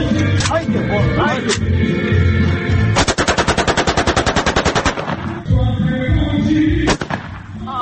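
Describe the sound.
Bursts of automatic rifle fire ring out in celebration, with a rapid, evenly spaced volley of loud cracks in the middle, separated by shorter single shots, while people talk underneath.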